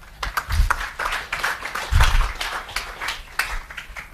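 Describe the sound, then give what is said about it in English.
A crowd applauds steadily for about four seconds to welcome a guest, a dense crackle of many hands clapping at once, swelling slightly in two spots with some low thumps mixed in. “So I'd like a round of applause as we welcome Mr. Daniel Silk.”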